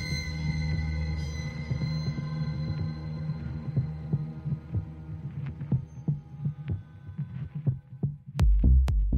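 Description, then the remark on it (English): A man's heartbeat thuds in a steady, low rhythm beneath a sustained droning hum, the beats growing sharper and more pronounced before a couple of loud, heavy thumps at the end. “I reached forward and rested my hand on his chest, felt his beating heart beneath my fingertips.”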